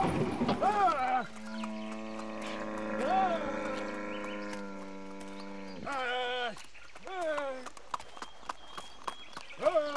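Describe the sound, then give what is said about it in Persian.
The hooves of a young horse, a colt named Duldul, clip-clop in an uneven patter of sharp knocks over the last few seconds, following a long, sustained tonal drone with rising and falling cries at its start and end. “تا غروب سرتان رو به این کره اسب بند میکنید.”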